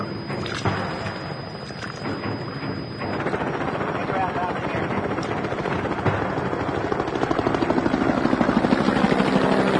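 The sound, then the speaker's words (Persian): An American helicopter circling above a group; its rotor thumps in a steady, rapid beat, the heavy whirring roar swelling louder and closer toward the end as it comes in overhead. “هلیکوپتر آمریکایی بالای سر گروه چرخ میزنه.”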